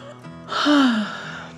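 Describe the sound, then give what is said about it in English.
A single drawn-out yawn performed by a narrator's voice for the story character Allie after lunch at a picnic table, opening with a breathy intake and sliding down into a low, falling vocal tone before trailing off, fairly loud. “After sharing a wonderful lunch with her mom, Allie yawned.”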